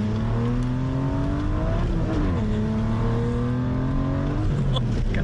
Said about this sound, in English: it was the test drive that really sealed the deal on this nearly $300,000 beauty